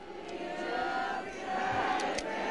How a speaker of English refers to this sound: They actually sang happy birthday to the pontiff.